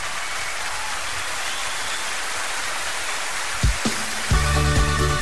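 A crowd applauds in a steady, dense wash of clapping that holds evenly, then a tonal music passage begins over it in the last second or so.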